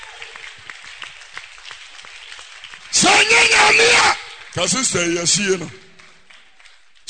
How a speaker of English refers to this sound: Oh, I can hear your clap of it.